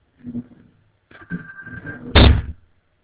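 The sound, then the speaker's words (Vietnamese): A few soft knocks and a brief scraping rattle as a ringing phone is shut away inside a wooden cabinet, then the cabinet door thuds shut with a solid bang that ends the sequence. “Điện thoại nó reo mà chúng tôi không có bắt, thì chúng tôi nhốt cái điện thoại vô tủ luôn rồi.”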